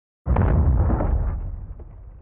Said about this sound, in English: As I write, the roar of explosions swells. Our windows shudder. These explosions that rob people of their sleep, and sometimes of their lives, have become the backdrop to my writing about victims of war.